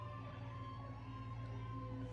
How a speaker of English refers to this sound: Bro, it's Santa Claus. They got the sirens going for Santa Claus. They got Santa Claus on top of a fire truck. bruh. Just with the sirens blasting.